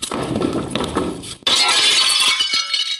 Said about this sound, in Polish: Na podłogę posypało się szkło. Prawdopodobnie strzeliły żarówki.